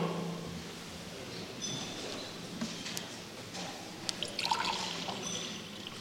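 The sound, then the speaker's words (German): Water trickles and splashes steadily into a container, driving out the air inside, for several seconds, a soft continuous pour with small bubbling gurgles toward the end, fairly quiet, with no voices. “Du brauchst Wasser, lebendiges Wasser.”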